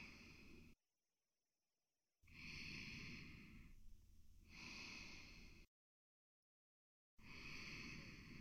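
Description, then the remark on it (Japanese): Slow, steady sleeping breaths, each a soft, airy whoosh of inhale and exhale followed by a silent pause. The breathing is fairly loud and breathy, with a faint snuffle, and no one speaks. “ゆったりとした寝息、満足そうな寝息、いい寝息、心地いい寝息、甘い現実に心地いい寝息が重なって、スイートすぎる現実。”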